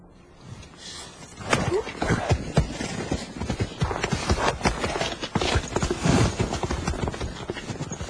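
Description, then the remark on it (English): Horse hooves clip-clopping in a quick, uneven rhythm, fairly loud, starting faintly and picking up after a moment, with rustling and scuffing mixed in and no talking. “get on the horse.”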